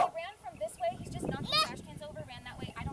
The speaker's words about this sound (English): Okay. Nope, dog just sitting on the ground. A good minute. Standing there barking.